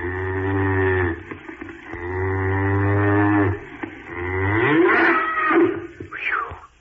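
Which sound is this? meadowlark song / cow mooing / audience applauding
cow mooing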